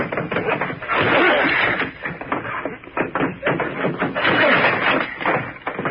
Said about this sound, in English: We'll probably have to force that old door. Get ready. We'll hit it together.